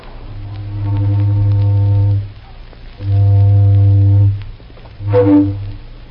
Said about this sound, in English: Now, getting back to that night in November 1925, if you were tuned in, you heard a mighty familiar toot on an old steamboat whistle and a mighty friendly voice talking to you, sort of like this.